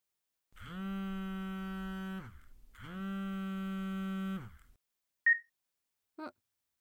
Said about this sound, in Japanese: ちょっと電話来たみたいだから、そのまま舐めてろ。